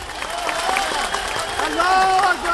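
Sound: rally crowd applauding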